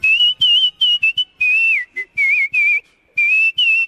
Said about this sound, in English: Hi there, I'm the world champion of musical whistling.